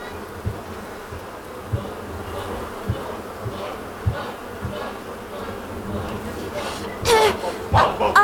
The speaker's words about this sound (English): Today, in this truck, barreling down this human highway, we are 5 million strong. This truck hums with the armies of many great clans of bees.